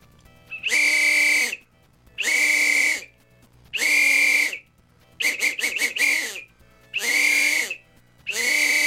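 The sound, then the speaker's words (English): A person imitates a Bigfoot-style howling call while whistling at the same time, in six loud bursts of about a second each with short pauses between, one broken into quick pulses. “That is the Bigfoot call along with a regular whistle.”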